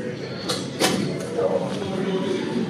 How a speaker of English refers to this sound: Doors are closing.